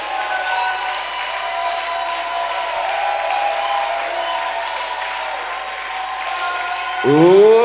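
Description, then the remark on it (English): An audience gives its first clap and shout of celebration for victory, a loud, sustained wall of applause and cheering that holds steady for several seconds, with voices rising into a louder swell at the very end. “Ladies and gentlemen, I want to hear your first clap and shout.”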